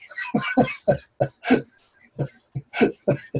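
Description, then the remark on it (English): A rapid series of about ten harsh coughs and throat-clearing hacks, fairly loud, in uneven bursts with brief gaps, no talking in between, from a person during a prayer session. “Coughing, yawning, hacking, all of it.”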